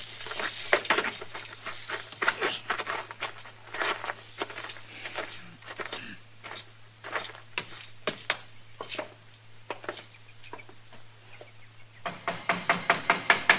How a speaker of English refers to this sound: Don't be banging on the door. I seen you coming.